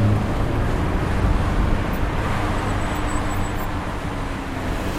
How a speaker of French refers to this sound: Non, mais qu'est-ce qu'elle fait cette moto?